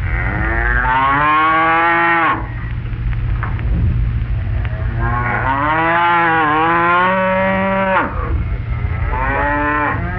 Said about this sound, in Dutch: En het geluid van wedstrijd nummer 12 was het geluid van koeien.